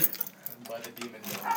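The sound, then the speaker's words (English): Keys jangle and clink in a brief, irregular burst of bright metallic rattling, with a voice faintly murmuring underneath. “Okay, thank God you have your keys.”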